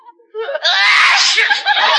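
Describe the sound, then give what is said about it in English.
A single loud, drawn-out sneeze from behind a couch: a rising, breathy wind-up that bursts into a long, hissing, voiced blast lasting over a second, with no other talking. “That sneeze came from behind the couch.”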